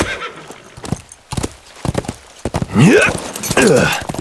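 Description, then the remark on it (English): Horse hooves clatter in quick, uneven beats as a horse gallops away, followed by two loud whinnies that rise and fall near the end. “no sooner had he turned toward Blackburn's horse than she sprang into the saddle of her own mount”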